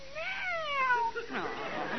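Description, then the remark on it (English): A cat named Skippy gives a single drawn-out meow, fairly loud, sliding up and then down in pitch, followed by a softer, breathier murmur. “Pretty cat. You won't be jealous of the little parrot, will you, Skippy?”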